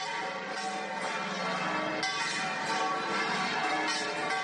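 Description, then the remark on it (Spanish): Church bells of the Convent of La Encarnación at the foot of the Giralda in Seville ring a festive first-class peal announcing a new Pope, overlapping clangs blending into a continuous, bright wash of tolling with no voices present. “Es un toque que se llama pino de primera clase y está reservado para las ocasiones especiales.”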